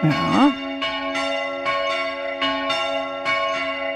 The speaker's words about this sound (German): Heute gibt es wieder ein neues Geläut aus der Diözese Eisenstadt zum Mitraten. Wo ist dieser Bimbam zu Hause? Hör mal rein.